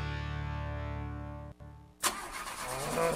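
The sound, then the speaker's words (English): A motorcycle engine cranks with a steady, whining starter hum, cuts out briefly, then coughs with a sharp burst into a rough, sputtering idle, fairly loud with no voices. “Just when you're ready to take your motorcycle out, those are sounds you don't want to hear.”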